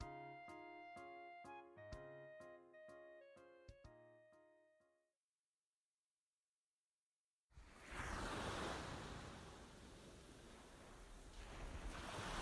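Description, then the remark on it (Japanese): A few seconds of gentle, plucked musical notes fade into silence, then a steady, loud roar of ocean waves and cold wind at the seaside fills the rest, continuous with no voices. “もう暖かくなってきたとはいえ、海辺は風が冷たいから。”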